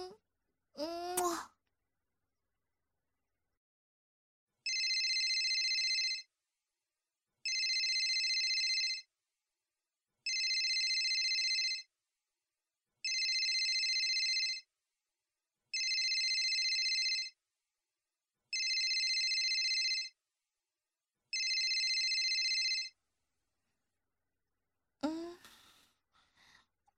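A phone ringtone sounds seven times in evenly spaced, bright, loud electronic bursts, with short vocal noises just before and after the ringing.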